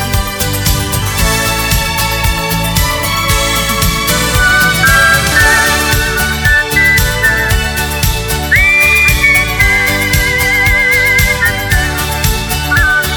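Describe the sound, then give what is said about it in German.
A clear, melodic human whistle carries a tune over a full band accompaniment, with sustained high notes and light vibrato weaving through the song. “Ja, das Pfeifen, das kann er.”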